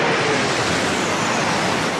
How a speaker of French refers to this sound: Le chef de l'État, lui, a terminé la journée par la traditionnelle cérémonie militaire devant la Croix de Lorraine, avec un survol des Alpha Jets de la patrouille de France.